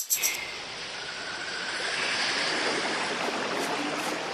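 Steady rushing of running water, as from a stream, with a few brief splashes at the start, like clothes being washed in it; no one speaks.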